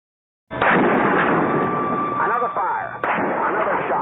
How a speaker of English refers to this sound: A sniper with a high-powered rifle has taken up a position on the observation deck of the tower on the campus of the University of Texas. He is firing at persons within his range.